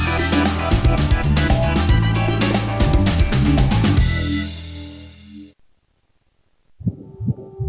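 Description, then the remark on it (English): A rapid, rhythmic whooshing fetal heartbeat as picked up by an ultrasound monitor, loud and steady for about five seconds, then fading into silence before a brief tonal sound returns. “When an expectant mom in crisis hears her baby's heartbeat on ultrasound and sees her baby in the womb, She's 80% more likely to choose life for her baby.”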